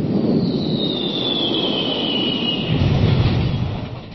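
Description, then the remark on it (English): A loud airplane engine roar from a Brain Pop animated educational video about 9/11 showing airplanes crashing into the World Trade Center: a high whine slowly drops in pitch, swelling into a heavier rumble near the end before fading slightly. No one speaks. “It uses animation to show the airplanes crashing into the World Trade Center.”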